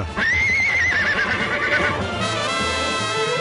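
A horse whinnies loudly and shakily, its high wavering cry rising and trembling for about two seconds, then fading into a bright, sustained musical jingle.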